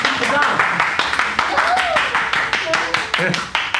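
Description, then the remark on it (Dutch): An audience breaks into sustained applause for a theatre scene just performed, a dense, steady patter of many hands clapping, with some voices calling out and chattering underneath. “Applaus voor de scène.”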